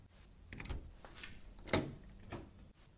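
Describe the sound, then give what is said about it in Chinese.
A door being opened: a few soft rattles and thumps from the handle, then a sharp latch click midway and a final muffled knock, fairly quiet with no voices. “姐妹们，加油加油加油，我要开门咯。”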